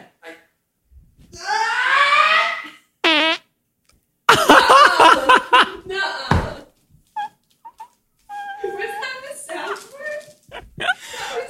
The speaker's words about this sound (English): Can you just first try to fart into this microphone?